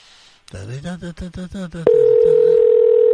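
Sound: telephone line ringing tone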